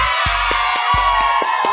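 A burst of crowd applause and cheering welcoming a guest on We Nation Radio, a loud steady wash of clapping and whoops with a few low thumps underneath, and no one speaking over it.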